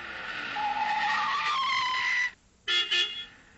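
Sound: car pulling up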